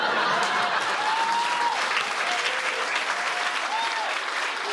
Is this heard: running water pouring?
no